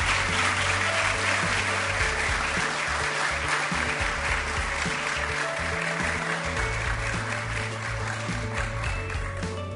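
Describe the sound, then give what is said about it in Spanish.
A crowd applauds steadily for the full clip for representatives of the program's sponsors, a dense, even wash of clapping with no pauses, accompanied by low sustained musical tones underneath. “Son representantes de los sponsors que hicieron posible también este programa, así que un fuerte aplauso para ellos.”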